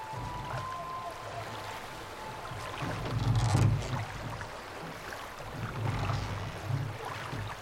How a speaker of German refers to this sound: Die blauschwarze Dämmerung über der Salzach, das leise Schmatzen der Wellen und wie wir aus unserem Versteck fast lautlos den Fluss hinuntertreiben.